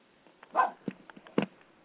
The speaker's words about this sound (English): Sounds like the dog agrees. Yeah, he's voicing his opinion. What kind of dog you got again? Little rat terrier. He thinks he's boss.